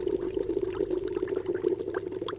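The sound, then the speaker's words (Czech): Water burbles and gurgles steadily, a continuous bubbling flow with small splashing pops scattered through it: a museum demonstration of an original spring outlet welling up inside a hollow tree trunk, in Mariánské Lázně. “Seděla jsem tam na bobku u názorné ukázky původního vývěru vody v dutém kmeni stromu.”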